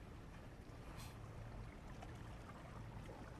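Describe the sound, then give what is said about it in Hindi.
A steady wash of sea waves fills the whole stretch, with a deep low rumble beneath and a brief brighter surge about a second in. No voices are heard. “आओ इन बातों की जगह आंखें बंद करें और सिर्फ समंदर की आवाज सुने।”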